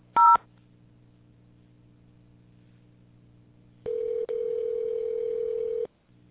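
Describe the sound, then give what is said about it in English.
A single short telephone keypad beep, a crisp two-tone press of 0 in the automated phone menu of Herman Hiss & Company, followed by a quiet pause and then a steady, louder electronic line tone lasting about two seconds. “If you would like our store hours, please press 1. All other calls, please press 0 and someone will assist you shortly.”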